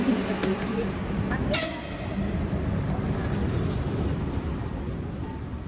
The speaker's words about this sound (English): Waiting for the train to Kiev, which has been delayed. There's a train just leaving it. The train is completely dark. All the trains travel completely dark, and obviously it makes it much safer.